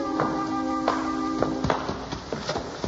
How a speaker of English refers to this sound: Then, as she started to speak, the front door of the cabin swung open, and a tall, gray-haired man wearing a six-gun walked out onto the stoop.